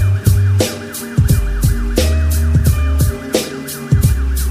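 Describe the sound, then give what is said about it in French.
A fire engine siren wails in rapid, steady up-and-down cycles, woven into a heavy musical beat with deep bass thumps and sharp percussive hits throughout. “T'entends que les pompiers appliquent, t'es décédé.”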